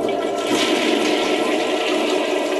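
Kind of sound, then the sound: household object, toilet flushing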